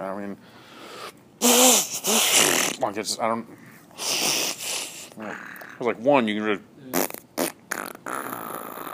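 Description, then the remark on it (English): Several loud fart noises made by hand, sputtering bursts of varying length with short pauses between, some buzzing and pitched, others breathy and airy. “When you make fart noises, do you go one hand? Do you ever do the two hands?”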